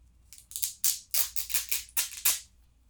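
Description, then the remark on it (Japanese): A hook-and-loop fastener (Magic Tape) holding a skirt is peeled apart in a quick series of about eight harsh, ripping tears, fairly loud, with brief pauses between pulls and no talking. “なんていうのこれ、ベリベリって剥がすやつ。マジックテープ、マジックテープでスカートがくっついてます。”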